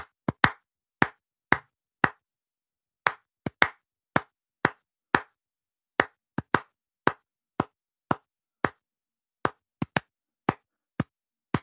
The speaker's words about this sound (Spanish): Básicamente explica un experimento que hicieron unos científicos en Harvard, vaya, que era: voy a tocar con las palmas una canción, ¿no? Por ejemplo, es esta.